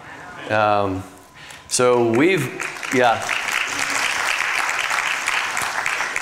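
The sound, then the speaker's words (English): A church audience breaks into steady, sustained applause, with a few loud voiced whoops and shouts at the start before the clapping settles into a dense, even roar. “It's as worthy, God is as worthy of that clap for how he's provided for us as it is that he could use me to do something for his sake.”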